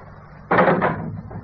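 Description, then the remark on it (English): A door opens with a sudden, fairly loud creak-and-thud lasting about half a second, then fades into quieter room noise; no voices are heard. “Please close the door.”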